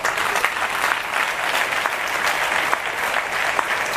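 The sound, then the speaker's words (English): An audience at a church service applauds together after a prayer, a steady, dense wash of many hands clapping without pause for several seconds, fairly loud. “They want to clap. Why don't you clap with them?”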